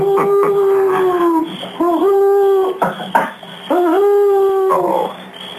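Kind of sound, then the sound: bird, owl hooting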